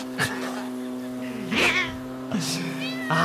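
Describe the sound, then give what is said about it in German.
The neighbour's cat lets out four loud, drawn-out meows, some rising into yowls, scolding a lawnmower over the steady droning hum of its engine. “lustige Katze schimpft mit Rasenmäher”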